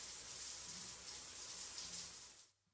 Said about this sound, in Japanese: 浴室にいる間は優しくもてなして癒してあげようと思っていたが、もう泡は余計だ。流してしまおう。